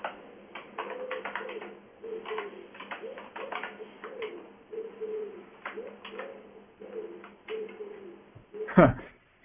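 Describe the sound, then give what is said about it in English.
A pigeon coos in low, soft, repeated calls, mingled with background voices talking, ending with a brief louder burst near the close. “What is this? Some owl or something? No, pigeon.”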